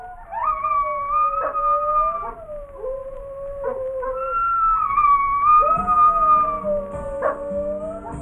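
Coyotes howl in long, wavering wails that rise and fall, several voices overlapping and joined by brief yips, loud with no one talking.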